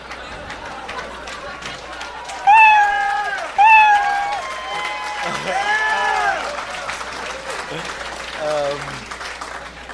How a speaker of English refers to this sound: The crowd was going crazy.